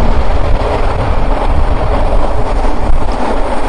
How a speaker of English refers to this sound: When the subway comes or leaves the station, it creates a vacuum and messes up the microphone.